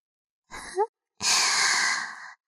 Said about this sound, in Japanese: その息遣いちょっとやらしいな。